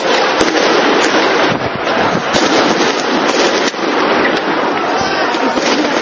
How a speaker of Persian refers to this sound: این روزها در کوچه و خیابان‌های بحرین بیشتر از آنکه صدای رقص و آواز سنتی بحرینی‌ها شنیده شود، فریاد تظاهرکنندگان خشمگین، قرش تانک‌ها و صدای شلیک گلوله و گاز اشک‌آور شنیده می‌شود.